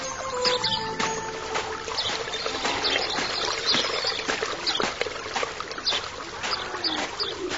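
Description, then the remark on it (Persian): Water is poured and splashes over hands as two people pour water on each other's hands to wash their hands and faces, a continuous trickling and splattering with small irregular bursts that runs steadily for several seconds, with no voices. “آن دو بر دستان یکدیگر آب ریختند و دست رو شستند.”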